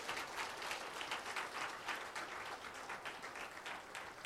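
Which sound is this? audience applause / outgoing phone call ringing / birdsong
audience applause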